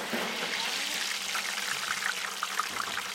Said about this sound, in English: These fries, now cooking in bubbling hot oil in Lamb Weston's kitchen, have been dipped in a special starchy batter. Its exact ingredients are a trade secret, but it's got potato starch and rice flour to keep fries crisp.